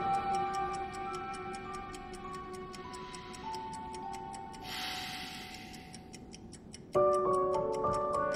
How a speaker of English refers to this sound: He winds the clock and closes it again. He turns the ticking clock to face him and regards it, frowning.